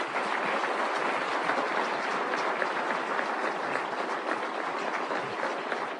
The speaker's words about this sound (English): Thank you very much, everybody. How about a round of applause for outstanding class this year?